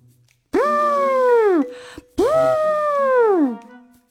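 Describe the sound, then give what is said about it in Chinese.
A voice imitates an elephant's trumpeting call twice, as a talking bird character with red head feathers does in a children's story. Each call is a loud, sustained, harmonic blare that starts high and slides downward before cutting off, with a short pause between. “只见呱呱用翅膀整理了一下头顶的红毛，开始模仿大象的叫声。”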